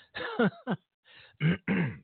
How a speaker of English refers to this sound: Seems like I've got something caught in my throat just before I come on the air. It seems like something was in my throat. You may have heard me cough.